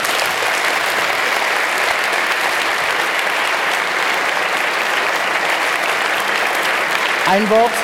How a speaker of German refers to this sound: Gebt ihm einen herzlichen Applaus.